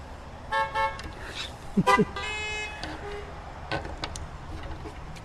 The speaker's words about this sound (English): Oh, those are the most beautiful horn honks I ever heard.